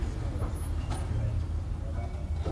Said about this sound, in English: we went down to a gas station just down the road here from Focus, and we recorded people filling their cars up with gas